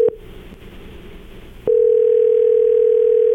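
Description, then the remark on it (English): A phone line rings out on an outgoing call from the K99.1 FM Breakfast Club radio show: a steady, electronic ringback tone hums loudly and continuously after a short burst of line noise and a click, with no voices. “Yep, phone's ringing.”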